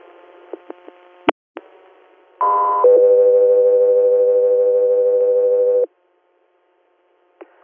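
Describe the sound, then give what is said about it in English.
Dispatch alert tones from Echo 3: a few short clicks and blips, then a loud steady two-part tone, a higher pitch briefly giving way to a long lower sustained tone that cuts off, with a faint blip after. “Echo 3 here, stand by for tones.”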